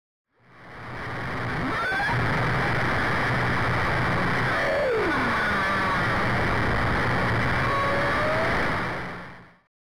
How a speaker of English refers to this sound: Here's an audio recording of ocean noise containing humpback whale vocalizations with a ship in the background in Stellwagen Bank National Marine Sanctuary.